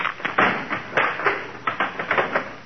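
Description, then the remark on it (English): A wooden chair breaking apart: a rapid, irregular series of sharp cracks and knocking thuds, fairly loud, with no voices over it. “Oh, darn it, that's the third chair he broke this week.”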